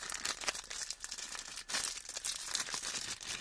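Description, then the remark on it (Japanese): A plastic bag holding slime crinkles steadily as it's handled, a continuous crisp rustling with brief sharper crackles and a short pause partway through. No one speaks. “この袋をハサミで切って、スライムを取り出します。”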